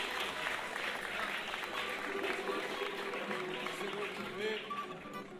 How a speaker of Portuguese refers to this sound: recebam uma salva de palmas da comunidade Samba da Vela.